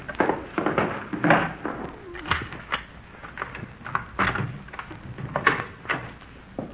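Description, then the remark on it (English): Clattering bumps and scrapes as stuff is moved away from a door, then the knock and creak of the door being opened, in an irregular burst of handling noise with no talking. “Let me get this stuff away from the door.”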